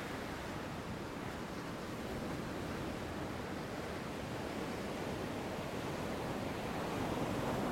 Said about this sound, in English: Now you're letting the water softly lap up to your ankles, each time offering a caress and an invitation to wade in a bit more as the surf seems to pull you gently forward.